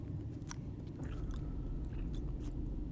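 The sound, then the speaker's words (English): Wet, sloppy slurping mouth sounds from a woman, irregular smacks and slurps over a steady low rumble, with no talking. “She's slurping so greedily, but these balls look so neglected.”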